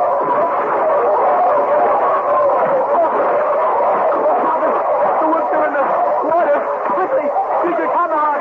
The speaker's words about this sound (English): Back against the snowbank, Father. Quick, the wolf comes.